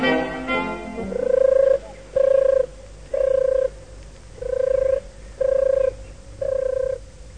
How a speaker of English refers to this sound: The turtle doves are adorable. They are already cooing away like anything. And I must say, their amorous behaviour leaves very little to the imagination.